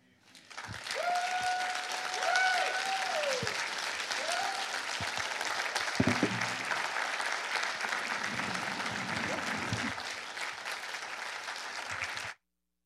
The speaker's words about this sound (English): And I ask everyone in here to please just give the mothers a standing ovation and celebrate them today.